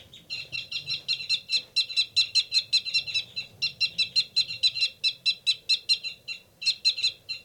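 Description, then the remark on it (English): Caged birds 273 and 274 give rapid, repeated fight calls, a steady stream of sharp, high chirps about four per second, loud and continuous with only two brief pauses and no talking. The rapid call is the male's. “There's a big commotion going on in 273 and 274's cage.”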